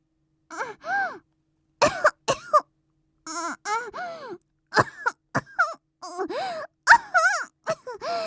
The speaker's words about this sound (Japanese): あれ、急に咳が。おまけに熱っぽいし。